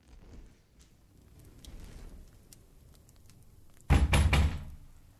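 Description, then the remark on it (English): After a stretch of quiet, low room noise, a door is pounded hard: a quick cluster of three heavy, booming thuds near the end, loud, with no voices. “3 pounds at the door, our hearts pounding out of our chest.”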